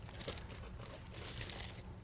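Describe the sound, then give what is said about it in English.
A paper bag crinkles and rustles softly for about two seconds, a steady papery crackle with small flurries of louder crunches, with no one talking. “A paper bag that I'll use.”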